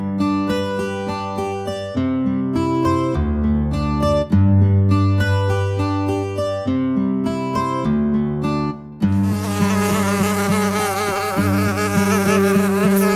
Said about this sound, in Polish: Taka mucha to marzycie, chodzi sobie po suficie.